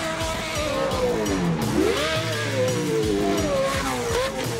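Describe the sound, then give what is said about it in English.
A loud Pro 2 class full-size two-wheel-drive off-road racing truck engine, as raced in the Lucas Oil off-road series, revs hard, its pitch climbing and dropping in repeated sweeps over a rough, gritty roar, with no voices. “The Pro 2 class he competes in features full-size two-wheel drive trucks on a 10-mile course filled with jumps, bumps, and tons of contact.”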